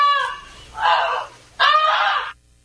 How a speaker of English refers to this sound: Luckily, the goose was loud enough, and the family woke up, grabbed a water hose, and put out the fire. And all the animals inside the barn escaped unharmed, too. Again, we have actual audio of the goose alerting the family.